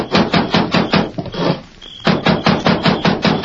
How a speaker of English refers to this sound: Consequently, he was surprised one night to be roused from his sleep by a loud pounding on the cabin door.